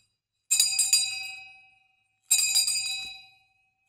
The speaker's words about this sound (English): There's the shame bell. Shame. Shame.